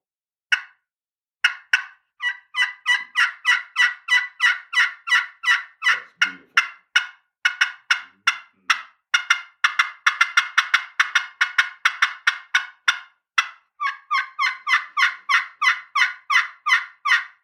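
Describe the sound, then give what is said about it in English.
A turkey call works through long, rapid runs of sharp yelps and cuts, fairly loud, pausing only briefly before resuming in a steady, insistent rhythm with no talking. “Some of these turkeys about to fly off the wall in here. Oh, man. That is a maestro.”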